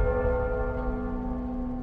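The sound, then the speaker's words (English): A ship's heart bell tolls in one long, steady tone, its deep hum and layered overtones sustained without fading, fairly loud, with no voices, sounding a full muster call to the ship. “You hear the tone of the heart bell.”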